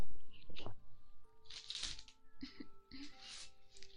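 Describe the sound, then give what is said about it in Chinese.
Close-miked tapping and handling of a face-cream jar: irregular crisp clicks and light taps with soft scraping swishes, over a faint steady tonal hum. “我们接下来做一个面霜的声音，做一个面霜的声音。”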